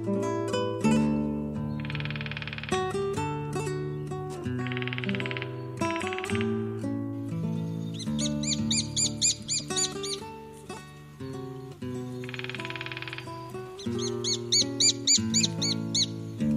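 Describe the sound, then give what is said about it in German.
Lesser spotted woodpecker calling: bursts of rapid, shrill, evenly spaced piping notes, repeated a few times over a steady, layered tonal background, clear. “Das war der Kleinspecht.”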